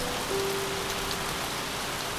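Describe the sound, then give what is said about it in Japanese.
Heavy rain pours down in a steady, dense, enveloping hiss, drumming on surfaces without a break. It is a downpour met on coming up to street level from a subway station. A faint thin tone hums briefly in the background. No voices. “地下鉄の駅にいた俺は地上に出てきたところで豪雨に気づき、唖然とした。”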